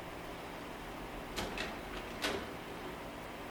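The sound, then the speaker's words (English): An old wooden baker's drawer from a baker's desk, a shallow drawer, slides with a few short, soft scraping bursts, then a second quick rub a moment later, quiet against a faint room hiss with no voices. “It's an old baker's flower drawer from a baker's desk.”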